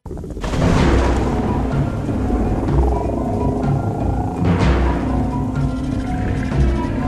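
A loud thunderstorm rumbles nonstop, with deep booming thunder rolling over a dense wash of noise like heavy rain. It starts abruptly and stays intense throughout, with no voices.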